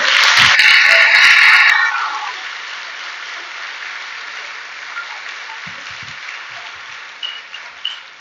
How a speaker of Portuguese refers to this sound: Aplauda ao Senhor!